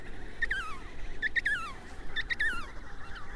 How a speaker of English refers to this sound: My feet are rooted to the snow-covered Antarctic terrain as I stand transfixed, observing thousands and thousands of emperor penguins in front of me. Nature's soundtrack is a loud chorus of penguins squawking and calling to one another.